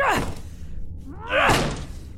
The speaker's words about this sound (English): He's definitely in there. Help me break this door down.